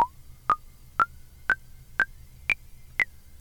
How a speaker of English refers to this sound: But it's double hitting because these are actual double clock signals. Yeah, these are like ta-ta, ta-ta, ta-ta. But we can do this too. Yep, we got some classic filter drum sounds here.